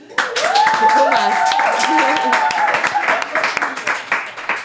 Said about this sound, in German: Und nur mal bereit? Einen großen Applaus.